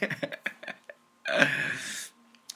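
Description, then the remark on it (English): A rapid run of short, choppy coughs, then a long, harsh, raspy breath that lasts almost a second, and one small cough at the end. No words are spoken. “Oh my God, that made me cough. My cough is back.”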